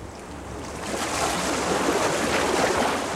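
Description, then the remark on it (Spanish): Ocean waves wash onto a beach in a steady, broad hiss of surf that swells slightly louder partway through, with no voices present. “Recuerdo que me hacía cosquillas la arena que llegaba con las olas y hasta sentía perder el equilibrio.”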